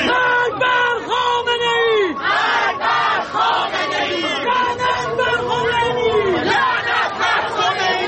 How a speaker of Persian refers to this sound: هزاران تن در حالی که شعار می‌دادند و نمادهایی از مهسا و دیگر جان باختگان اعتراضات را در دست یا بر سر داشتند، از میدان باستیل تا شهرداری مرکزی پاریس راه پیمایی کردند.